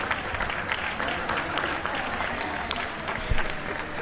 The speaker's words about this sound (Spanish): Estos aplausos eran para ellos. Acudíamos a nuestras terrazas, a nuestras ventanas, a nuestros balcones para aplaudir a toda esa comunidad de gente que estaba haciendo cosas impresionantes por salvar un montón de vidas.